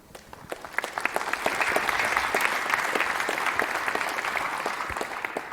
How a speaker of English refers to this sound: Warm applause for them.